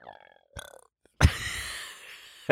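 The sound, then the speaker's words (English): A loud burp that came up in the throat without being pushed erupts after a couple of brief faint sounds, its rough low rumble sustaining for over a second before a sharp click at the very end. “It just kind of burped in my throat.”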